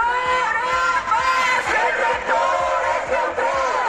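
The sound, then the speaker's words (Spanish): About twenty pro-Palestine protesters gathered at the doors of a historic building in Oviedo, Spain, shout and chant together outdoors, voices overlapping loudly and continuously, with a steady, rhythmic thumping beat underneath. “Gritos y toma de posesión al margen.”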